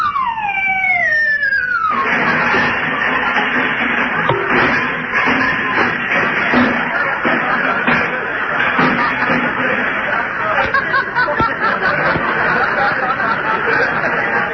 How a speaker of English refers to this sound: Yeah, and I can hear him walking around on the roof. He's getting ready to come down the chimney.